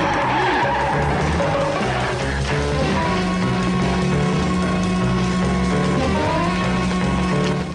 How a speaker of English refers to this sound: A police car with a flashing light on top pulls up.